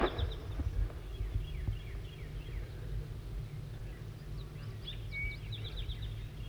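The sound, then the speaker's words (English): A bird designated 4-3 calls repeatedly in short, high-pitched chirps, with a burst early on and another cluster near the end, over a steady low rumbling hum. “4-3 is continuing to call.”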